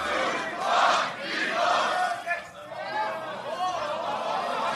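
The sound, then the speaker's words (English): A large crowd at a beatbox battle shouts together loudly, voices swelling in a couple of unified bursts as they chant a countdown of three, two, one, with dense cheering filling the space throughout. “I say the three. Y'all say the two and the one. Crowd in three.”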